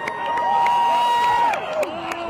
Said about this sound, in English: And then once the verdict's read, I see people start cheering, you know, people are pumping their fists in the air, they're waving Black Lives Matter flags, some people are hugging.